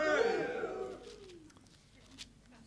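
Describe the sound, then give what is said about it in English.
A short burst of crowd cheering, several voices whooping together and sliding down in pitch, then fading out within about a second and a half, leaving quiet. “That was a better cheer than last night.”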